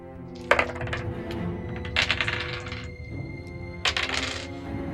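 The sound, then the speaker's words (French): Dice rattle and clatter across a hard surface in three separate rolls as players make their rolls in a French-language tabletop role-playing game, each a quick burst of bright, sharp clicks, over a steady low hum with no talking. “Allez, chacun fait ses jets.”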